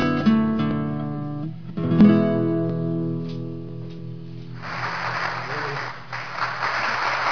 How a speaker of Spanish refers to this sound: Que se merece un aplauso, aunque sea de estos pregrabados, por lo menos.